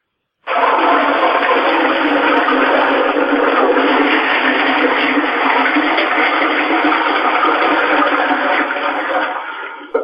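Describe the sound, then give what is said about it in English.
A toilet flushes loudly, a steady rushing roar of water that starts abruptly, holds for about nine seconds, then tapers off at the end. “The quickest way to check is by having you flush the toilet, sir.”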